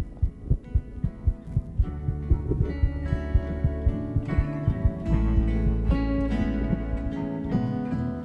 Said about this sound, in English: As we hugged, the microphone I was wearing picked up the sound of a heartbeat. I don't know whose heart it was, but it doesn't really matter.